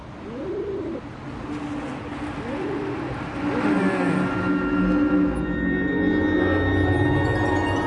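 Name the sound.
dove cooing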